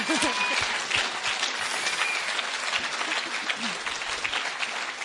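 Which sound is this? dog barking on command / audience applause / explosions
audience applause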